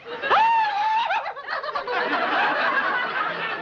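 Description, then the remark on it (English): A person imitates a horse's whinny with their voice: a high, sustained squeal that wavers, then breaks into a rapid, breathy, sputtering trill lasting a few seconds. “Sounded like a horse.”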